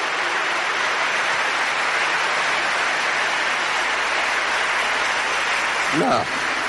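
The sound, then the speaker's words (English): Sustained applause from a crowd clapping to Almighty God, a dense, steady wash of many hands clapping at once, with a brief voice breaking through near the end. “Please join me in clapping for the to the Almighty God for that.”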